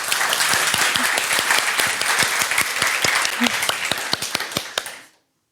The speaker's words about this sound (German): Eigentlich hätten wir noch klatschen müssen. Aber okay. Ihr denkt euch das Klatschen.